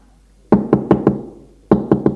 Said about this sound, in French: Il monte au premier, l'agent frappe à une porte.